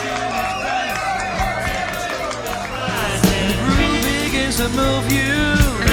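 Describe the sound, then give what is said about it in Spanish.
A programme's audience cheers loudly and steadily for several seconds, with shouts and high whoops rising over a dense wash of clapping and noise that swells slightly toward the end. “Un aplauso. Que hemos llegado, ¿eh? Hemos llegado. Aplaudimos todos.”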